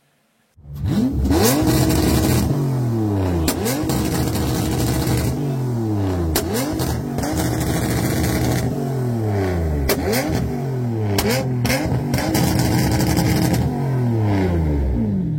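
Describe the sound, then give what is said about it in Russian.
A BMW E34's engine revs hard again and again, each rev climbing sharply in pitch before dropping back, loud, with a steady rumble between the revs and no talking. “Е34 никогда не была в наших странах респектабельной машиной инженера. Она сразу была и осталась бандитской машиной.”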